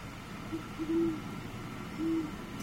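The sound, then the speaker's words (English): Deep, low hoots of an adult great horned owl: a couple of short soft notes leading into a longer hoot, then another drawn-out hoot after a pause, with no talking. “Here's the adult great horned.”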